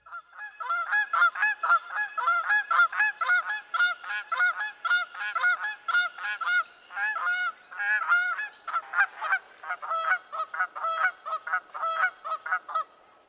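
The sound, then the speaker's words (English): A pair of Canada geese, male and female, honk back and forth in a rapid responsive duet. The male's loud, deeper honks alternate with the female's higher-pitched ones in a steady, overlapping rhythm, with no other sounds. “At times, both males and females call in a responsive duet. The male gives a loud honk, alternating with the female's higher-pitched version of the same.”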